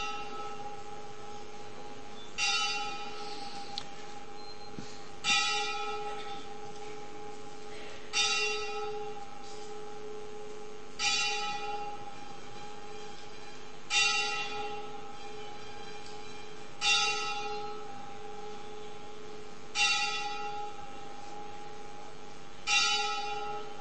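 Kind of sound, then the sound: signal or alarm, temple bell ringing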